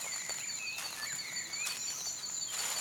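A steady nighttime chorus of crickets and frogs trilling together in the woods, with thin high insect tones and chirping calls layered over a soft, constant ambient hiss; no voices.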